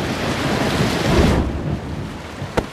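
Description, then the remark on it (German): Heavy rain pours steadily while deep thunder rumbles loudly in the first half, then the storm quiets to a softer hiss with a single sharp crack near the end. No voices. “Seit Tagen gab es heftigen Regen und Gewitter.”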